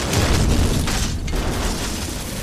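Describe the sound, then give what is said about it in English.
The gunpowder magazine of a launch explodes after being hit by a shot from a gunboat, a loud, sustained roar, deep rumbling and crackling noise filling the whole stretch without fading, overwhelming, with no voices. “A lucky shot from the gunboat hit the magazine of the launcher and off it went bang.”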